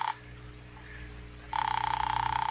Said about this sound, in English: Ring that line you've been holding for me. All right, Doctor, it's ringing here.